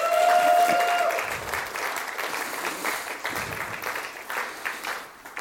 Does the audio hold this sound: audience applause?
yes